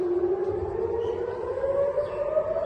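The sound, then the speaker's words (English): A wailing air raid siren in Israel, set off by a barrage of rockets fired from Gaza: a single sustained tone slowly rising in pitch, sounding steadily at moderate loudness with some low rumble beneath and no voices. “Palestinian militant group Hamas on Sunday fired a barrage of rockets from Gaza that set off air raid sirens as far as Tel Aviv for the first time in months.”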